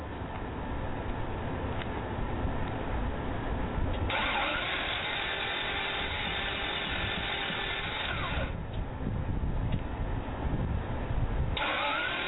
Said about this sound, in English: If your car is sounding like this, it sounds like you might be in trouble.